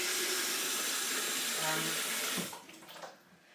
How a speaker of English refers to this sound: I'm just going to fill the kettle up.